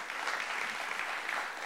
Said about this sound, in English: Isn't God good and his presence good? Amen. Let's give him another hand clap of praise this morning.